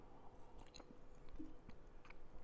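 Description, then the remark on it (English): A quiet fifth sip of rye bourbon during a tasting: soft wet mouth noises and small slurping clicks scattered over a couple of seconds, with no one talking. “Sip number five.”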